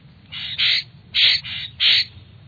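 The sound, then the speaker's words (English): A Florida scrub jay gives a series of harsh, raspy calls, about five rough squawks in an uneven rhythm, loud, with no talking. “Because they depend on acorns during winter, Florida scrub jays can survive only in oak scrub.”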